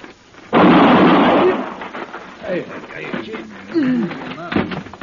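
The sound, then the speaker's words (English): A single loud gunshot cracks out suddenly, its booming roar lingering and fading over about a second, followed by people talking. “And I'm going to kill you with this 1 bullet if you try to take his gun.”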